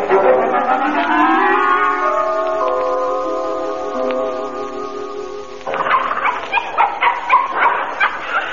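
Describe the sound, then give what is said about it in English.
Several dogs in a pet shop just off the Edgeware Road whine and yelp in long, wavering cries, then break into a burst of rapid, overlapping barks and yips, loud, with no one speaking. “Excuse me, is this the pet puppy and kitty shop?”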